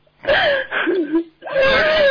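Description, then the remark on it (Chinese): A person whimpers and cries in wavering, high, strained vocal sobs, two drawn-out bursts separated by a brief catch of breath, fairly loud with no clear words. “别 哭，我一听到你我就想哭。”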